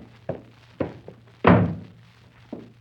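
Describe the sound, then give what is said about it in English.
A door being shut: a few soft wooden knocks lead up to one heavy, booming thud that rings out briefly, then a last light tap, all over a low steady hum. “Won't you please shut my door again?”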